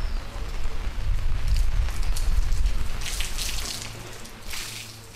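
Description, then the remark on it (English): Rain starting to fall outside a cafe patters steadily outdoors over a low, rumbling background, the crackly hiss of drops growing brighter and more scattered toward the end; no voices. “As people start to rush by the cafe, a toddler pushed quickly on a tricycle in front of her mother, eager to get out of the starting rain.”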